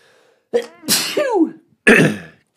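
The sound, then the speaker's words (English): A loud sneeze in a Travel Lodge hotel: a short gasping build-up breaks into an explosive burst, followed a moment later by a second sharp, breathy blast, with no talking. “I'm going to sneeze.”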